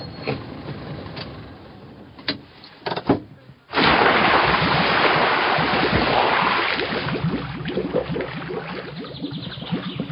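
A few scattered knocks and bumps, then a sudden loud rush of splashing, churning water that carries on steadily for several seconds as a car drives through a river.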